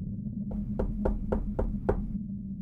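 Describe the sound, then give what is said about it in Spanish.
Six soft, evenly spaced knocks on an office door by a man in a lab coat at 4:30 a.m., quick and steady, heard over a low constant background hum with no voices. “Fue entonces que hubo un suave golpe en la puerta de la oficina.”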